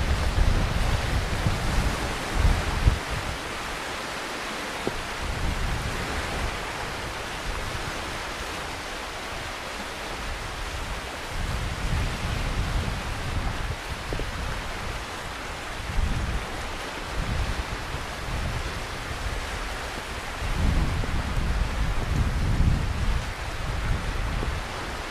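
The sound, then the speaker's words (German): Sea waves roll in and break on the shore at Kap Arkona on the island of Rügen in a steady, broad wash of surf, with periodic swells of low rumble and a faint breeze, no voices present. “Nach so einer wilden Reise kreuz und quer über die Insel Rügen haben wir uns noch ein paar Wellen verdient.”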